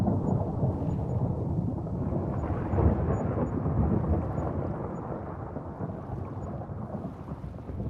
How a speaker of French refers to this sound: Et sa rotation rapide provoque de violents orages.